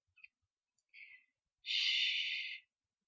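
Ragged, uneven breathing: a quick short breath, a slightly longer one, then a long, airy, drawn-out exhale, with brief silences between and no talking.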